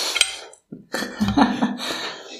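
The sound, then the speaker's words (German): Wet, crunchy bites and slurps of someone eating watermelon, in a few uneven bursts with a brief pause, with faint clinks like cutlery or a dish mixed in. “Gut, dass wir hier Wassermelone haben. Ja. So ein bisschen aufzuklären, woher unsere Essgeräusche stammen.”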